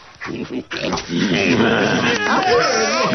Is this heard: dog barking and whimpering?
yes